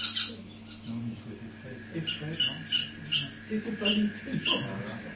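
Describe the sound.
Repeated harsh, raspy screeching cries from an owl, coming in short bursts over a low steady hum, moderately loud, with a voice speaking faintly beneath.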